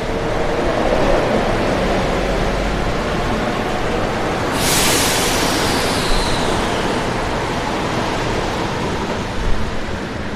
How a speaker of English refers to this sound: Now we're just coming into Universidad. While we're on this train at Hidalgo, now arriving at Universidad. And there's nothing like no such thing as a smooth stop here on this metro.